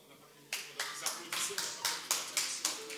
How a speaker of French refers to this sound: Y los que aplauden son los mexicanos. Les seuls qui applaudissent sont les Mexicains.